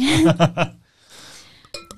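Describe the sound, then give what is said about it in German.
A brief spoken word, then wine is poured into a glass during a wine tasting: a soft, steady splashing stream followed by ringing glassy tones and a faint clink at the end. “Darf ich Ihnen einschenken?”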